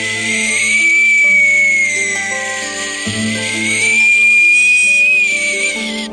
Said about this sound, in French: tandis que la brise marine siffle en faisant ses gammes.